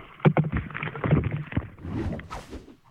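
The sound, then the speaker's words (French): Canoe paddled fairly hard into a light headwind: repeated splashing, sloshing strokes of water with a low, rumbling wind buffeting underneath, the bursts irregular and fairly strong, no one speaking. “Enfin bon, là voilà, je pagaille un peu fort parce que il y a un petit vent de face et donc il faut y aller.”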